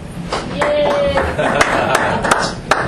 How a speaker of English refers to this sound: So you guys put your hands together